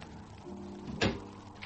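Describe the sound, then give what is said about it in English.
A terrace door is closed with one solid thud over a low background hum, followed by a faint click a moment later. “Open the door to the terrace, Mr. Collins. Now, we'll step outside. That's it. Close the door.”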